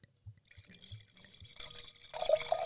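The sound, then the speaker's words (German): Wine poured into a glass: a few soft low glugs at first, then a steady splashing hiss that grows louder and brighter as the glass fills. No one speaks. “Jetzt mal einen halben Liter im Glas.”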